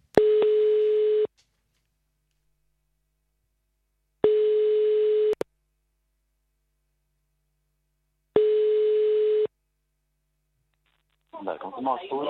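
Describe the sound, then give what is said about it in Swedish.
Three long, steady telephone line tones sound through a narrow phone-line band as a prank call is placed, each about a second long and spaced several seconds apart, before a voice briefly begins speaking at the end. “Det här är en busringning, modell buskis.”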